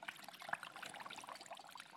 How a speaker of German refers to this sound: Und wenn man genau hinguckt, man hört sogar, sieht man Blasen, die aufkommen.